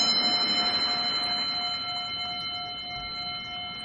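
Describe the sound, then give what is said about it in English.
A meditation bell rings out with a long, shimmering sustain, its clear overtones hanging steadily in the air and slowly fading. No voices are heard. “So with the sounding of the bell, find a comfortable place to be and begin to deeply relax, allowing the bell to take you into a deep meditative state.”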